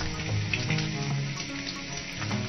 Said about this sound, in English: And of course, frying bacon.